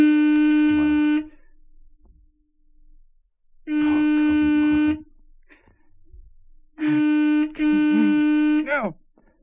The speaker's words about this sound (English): The horn. Someone will hear the horn.